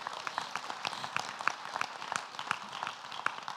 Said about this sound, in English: Yeah, let's give him a round of applause for that.